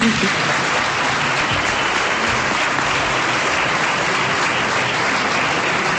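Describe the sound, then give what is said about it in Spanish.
Sustained audience applause fills the whole stretch, a dense, steady wash of many hands clapping with no pauses. “Un aplauso”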